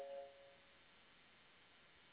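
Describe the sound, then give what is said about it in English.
A short electronic notification chime, signalling tech support joining a live online broadcast, sounds once at the very start, a couple of soft tones, then fades into a steady low hiss. No one speaks. “that chime that you all keep hearing, that's actually tech support with Blog Talk”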